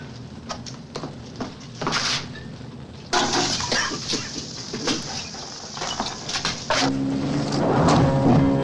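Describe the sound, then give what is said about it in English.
Acid splashes and hisses as it's poured from a full bottle onto plates lying on the floor, with scattered clinks and scrapes. The fizzing grows louder partway through and continues steadily, with no talking. “When he finds a full bottle of acid, he pours it onto the plates that lie on the floor and coughs from the noxious fumes.”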